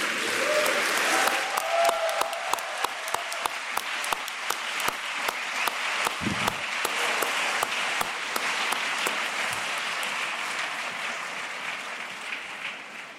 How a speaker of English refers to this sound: Well, from the whoops of applause that greeted that last contribution